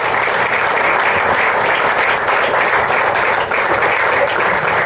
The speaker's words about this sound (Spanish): Y bueno, termino haciendo esta presentación dándole las gracias a las autoridades policiales que vinieron, a las autoridades eclesiásticas, también vinieron los representantes de los pastores evangélicos, que pido un aplauso para ellos también.